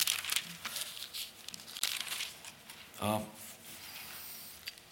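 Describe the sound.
Thin Bible pages rustle and flip as someone turns to Matthew 4, in a series of crisp, crinkly bursts, with a brief murmur of a voice partway through.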